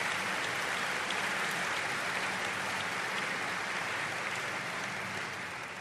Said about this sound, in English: let's give all of our businesses a great big round of applause.